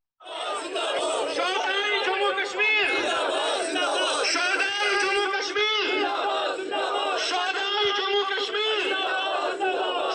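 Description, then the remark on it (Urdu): A large crowd of party workers and supporters of Kashmiri leader Mirwaiz Umar Farooq shouts slogans in unison outside his house after police arrested him. Many voices overlap in loud, rhythmic chanting that stays steady and dense from start to finish. “میرواز کے گھر کے باہر جمع ہونے والے ان کی پارٹی کے کارکنوں اور حامیوں نے نعرے لگائے.”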